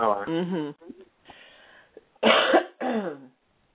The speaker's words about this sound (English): Okay, if I can stop coughing long enough, I am expecting a call from another place, and I'm going to lay some groundwork.